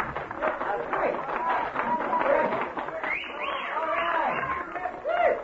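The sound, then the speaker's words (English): An audience at amateur night at the Snake Pit applauds steadily, with dense clapping mixed with excited cheering and whooping voices. The crowd noise is full and sustained, with a lively shout rising near the end. “A great big round of applause.”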